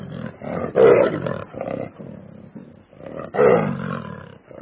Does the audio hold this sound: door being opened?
no